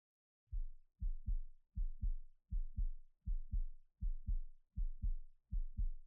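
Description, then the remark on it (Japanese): A steady heartbeat thumps close up, as if heard with an ear pressed to a chest, its paired low lub-dub beats repeating evenly about every three-quarters of a second with no voices. “君のはドキドキで、私のはトクントクンって感じでしょ？”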